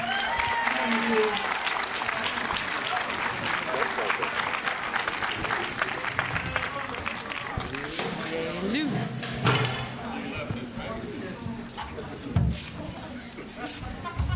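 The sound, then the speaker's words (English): A crowd applauds steadily, welcoming a group onto the stage, with dense, crackling clapping that holds its loudness for the whole stretch, with scattered cheers and murmuring voices mixed in. “Clap them on to the stage.”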